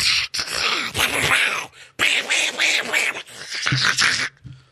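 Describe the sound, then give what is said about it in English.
A voice loudly imitates the sounds of video games played on phones with the volume all the way up, a string of harsh, buzzy, groaning vocal bursts with a brief break in the middle, ending in a short fade. “And I turn around, and both these dudes are on their phones playing video games. With the sound up.”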